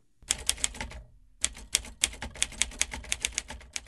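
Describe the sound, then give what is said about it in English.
Rapid, irregular clacking of a manual typewriter's keys, with a brief pause before a second steady burst of sharp strikes. “I like manual typewriters to bang out that first draft on for various reasons.”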